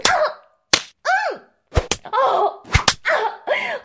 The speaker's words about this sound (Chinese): 母狗的屁股要被主子打烂了！爷，不要停！